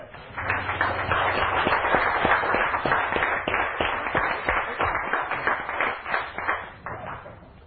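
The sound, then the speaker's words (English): An audience claps steadily for several seconds, a dense patter of many hands with some voices cheering underneath, then the applause thins and fades toward the end. “Give him a cheer.”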